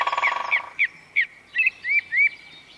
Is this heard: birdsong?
yes